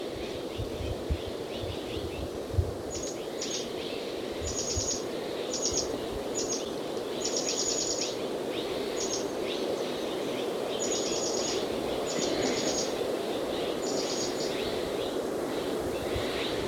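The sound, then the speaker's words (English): Mexican jays call repeatedly amid steady outdoor noise, while higher, short chattering notes come in bursts over the top. “The Mexican jays are still carrying on behind them.”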